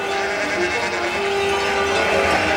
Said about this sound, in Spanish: ¡Vuélvase, señor Don Quijote! ¡Que son ovejas y carneros!